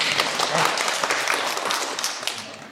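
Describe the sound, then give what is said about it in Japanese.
A crowd applauds the building's one-year anniversary in a steady wash of many overlapping claps, fairly loud and dense throughout, with no voices standing out above the clapping. “拍手が止むのが早かったですけど”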